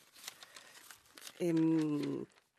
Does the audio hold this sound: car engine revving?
no